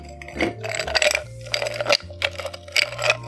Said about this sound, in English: So now the scene is set, I'll just whip one up for you. First, fill a cocktail shaker with ice.